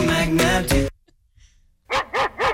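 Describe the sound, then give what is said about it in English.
A dog barks loudly, with a drawn-out burst of barking, a brief silence, then three quick, evenly spaced barks in a row. “So I wanted the dog over the top of.”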